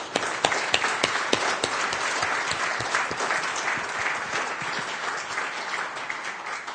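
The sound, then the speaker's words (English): A crowd bursts into sustained applause for the Samba 3 developers, dense overlapping claps with a few sharper individual claps standing out, steady and fairly loud throughout with no voices. “So I'd really like to give a huge thank you and a round of applause to the Samba 3 developers to thank them for their ongoing efforts.”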